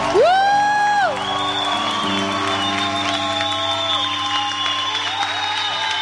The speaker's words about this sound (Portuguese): e aplauda Nossa Senhora.